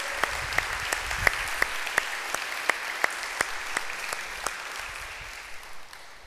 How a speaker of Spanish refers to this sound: Un aplauso al Señor. ¡Él es bueno! ¡Él es bueno!